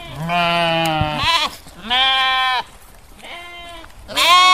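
Goats bleat four times in quick succession, loud, each call a wavering, nasal cry lasting about a second, with the third noticeably softer. No one speaks.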